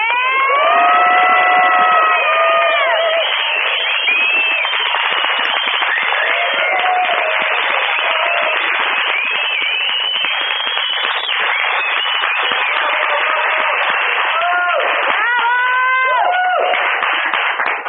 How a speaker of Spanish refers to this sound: a quien les pido un fuerte, fuerte aplauso.